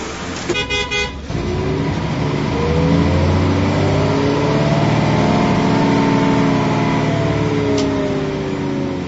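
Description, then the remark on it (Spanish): A brief horn blast opens, then a bus engine revs up loudly, its droning pitch climbing steadily as the bus, decorated with flower garlands, departs Srinagar in Indian-administered Kashmir for Muzaffarabad on the Pakistani side, pulling away and accelerating. “Un autobús partió de Srinagar, en la zona administrada por India, hacia Muzaffarabad, en el lado pakistaní, desde donde otro transporte inició su ruta a la inversa.”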